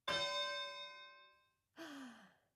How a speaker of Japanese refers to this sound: 始まりの鐘が鳴ったね。